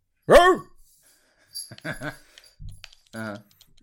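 A dog barks sharply once, loud, followed by a few shorter, quieter yelps spaced over the next couple of seconds against an otherwise silent background.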